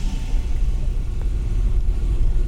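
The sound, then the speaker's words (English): A car engine rumbles steadily, a deep continuous drone with a slight rev as the car drives away, with no voices over it. “then I can drive out of here”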